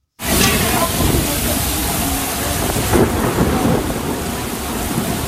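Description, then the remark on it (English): Heavy rain pours down in a dense, steady roar while deep thunder rumbles low underneath, a loud, violent overnight thunderstorm in France that continues unbroken for the whole stretch. “In France, violent thunderstorms overnight killed at least two people and injured 17 more.”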